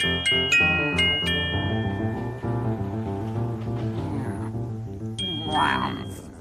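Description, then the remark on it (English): The trolley's bell rings several quick, bright dings at the start as it comes along the trolley tracks in the Neighborhood of Make-Believe, over steady tuneful music, then sounds once more near the end as the music continues. “Let's make believe that she does find her as the trolley comes along the trolley tracks in the neighborhood of make-believe.”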